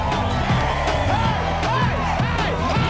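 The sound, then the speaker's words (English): A lively crowd of students dancing at a prom cheers and whoops continuously, with rising and falling shouts over a dense wall of party noise and a steady low thump underneath. “At the prom, students dance among the crowd.”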